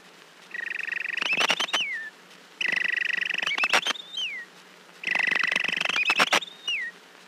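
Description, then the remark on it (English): A person whistles an imitation of a robin's evening song: three similar phrases, each a fluttering trill with sharp clicks ending in a falling slide. The phrases are clear, separated by short pauses. “In the evening, he whistles like this.”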